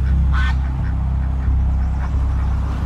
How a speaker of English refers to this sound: These five geese in the room.